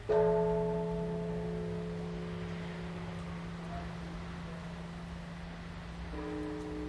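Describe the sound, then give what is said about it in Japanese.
A deep temple bell in the Teramachi temple district of Kanazawa is struck once at the end of the day. Its low humming resonance lingers over the town and slowly fades for several seconds before a second strike rings out near the end, over faint wind-like background noise. “長い一日も終わり、寺町通りの車の流れもひととき途絶える頃、鐘の音が町に響き渡ります。”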